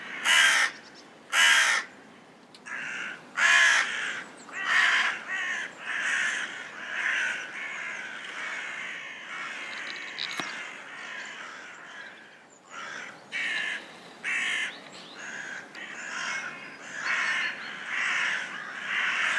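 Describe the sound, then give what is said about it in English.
A raven gives a long series of drawn-out, harsh territory calls, marking its land, one after another at a slow, steady pace. The calls are loud, with no talking. “The first one is territory calls, listening. Wow, its sounds is really long and slow.”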